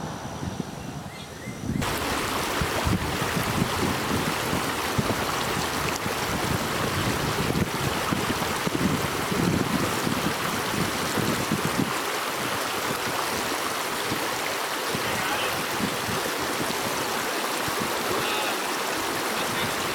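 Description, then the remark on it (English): A strong outdoor wind in Hawaii roars steadily, buffeting the microphone with a loud, continuous rush of noise that starts abruptly after a quieter moment and never lets up. No one speaks. “Okay, it's pretty windy down here, so I doubt anybody can really hear what you guys will be saying, or were saying, or whatever.”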